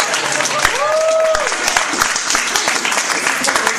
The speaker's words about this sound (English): So after I read your name, I will present you with your diploma and everybody will clap for you.